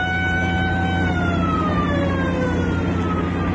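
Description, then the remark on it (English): An army patrol car siren wails in long, slowly sliding tones over a steady low rumble of engine and road noise, fairly loud and continuous with no one speaking. “Just an army patrol car.”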